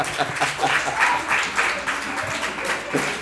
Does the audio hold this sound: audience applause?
yes